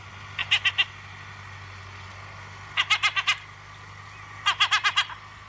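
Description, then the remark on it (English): Herring gull calls ring out in three quick bursts of three to five sharp, laughing yelps, with short pauses between them over a low, steady background hum. “The last reason I like herring gulls, I admit, is something of an odd one.”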